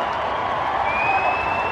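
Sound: stadium crowd cheering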